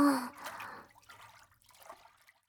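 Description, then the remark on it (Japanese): A short splash of water opens, then fades into faint, scattered trickling and dribbling sounds, quiet and intermittent, with no talking, as water is poured to rinse someone's foamy back while washing it. “私も背中流します。”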